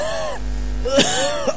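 A person gives a short, voiced throat clearing followed by a sharp, breathy cough, fairly high-pitched and a little strained, with no talking around it.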